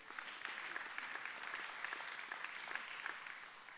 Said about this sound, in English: It's okay to clap all day today.